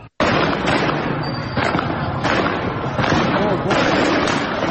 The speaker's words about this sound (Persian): ویدیوهای پرشماری در شبکه‌های اجتماعی منتشر شده که نشان می‌دهد ماموران امنیتی به طور مستقیم به معترضان شلیک می‌کنند. اینجا هم شیراز پر از دود و خون و آتش، جنگ، دانشگاه را آتش زدن.